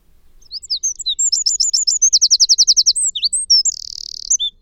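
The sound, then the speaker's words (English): A wren pours out a loud, rapid song of high trills and chirps, with a fast repeated rattle in the middle and a buzzing trill near the end, sung alone. “The wren is our most common native bird.”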